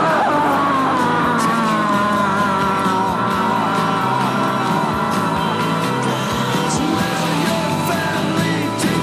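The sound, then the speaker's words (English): A man screams loudly and continuously for several seconds, a raw, sustained yell that stays close and harsh, with a dense, layered roar behind it and no clear words. “Meanwhile, in hell, George Walker Bush screams.”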